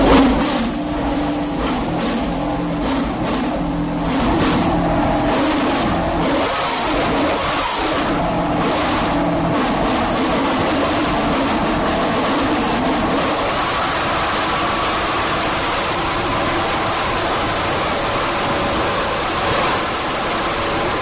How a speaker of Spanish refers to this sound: Me he metido en el box y he grabado de qué manera y con qué salvaje, de qué manera tan salvaje se acelera estos motores para que lleguen a su límite y acaben por romperse.